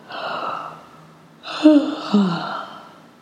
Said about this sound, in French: Bâillez.